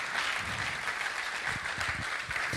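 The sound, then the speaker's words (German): Sustained applause from an audience for a speaker who shared a story, a dense wash of clapping at a steady, fairly loud level, with no clear voices over it. “Hey, komm, wir geben Dana mal noch einen Applaus, wie sie uns in diese Geschichte mit reingenommen hat.”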